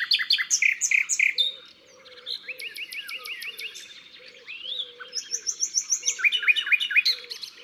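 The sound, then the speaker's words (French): Rich, varied birdsong of rapid trills, whistles and repeated chirping phrases, as nightingales in a hedge around a pond sing and answer each other, one bright and another in the distance, with a soft low cooing faintly underneath. “Il y a un autre rossignol au loin, et ils se répondent, ils s'écoutent.”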